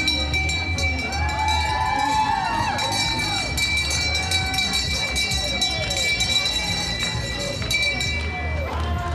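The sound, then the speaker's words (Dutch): A bell rung on a boat passing under a bridge in a boat parade gives off bright, lingering metallic tones that ring steadily over a busy background of crowd noise and scattered voices. “Eentje met een bel.”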